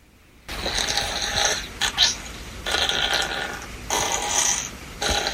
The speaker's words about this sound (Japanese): 湿った音のおならに変更することができます。